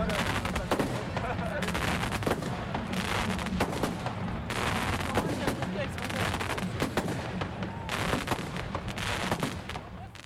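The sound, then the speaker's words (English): Fireworks go off at the end of a rally in a rapid, continuous barrage of loud cracks and booms for about ten seconds, with crowd voices faintly mixed underneath. “Voilà, donc rassemblement qui s'est terminé par un feu d'artifice.”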